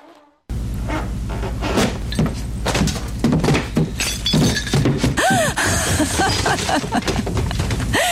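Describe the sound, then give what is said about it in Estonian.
A loud crash of a splintering, breaking floor, left unrenovated for years, and heavy thuds as a person falls through it down to the first floor, with crackling debris continuing for several seconds, chaotic. “esimesele korrusele minnakse ikka trepist, mitte läbi põranda.”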